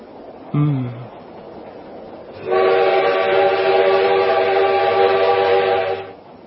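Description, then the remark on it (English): A train rumbles along as it enters a tunnel, giving a short, low whistle blast, then a loud, sustained, steady whistle that holds for several seconds before cutting off. “After what seemed an eternity of silence between us, the train entered a tunnel.”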